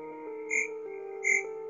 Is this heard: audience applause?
no